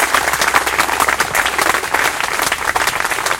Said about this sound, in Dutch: Applaus.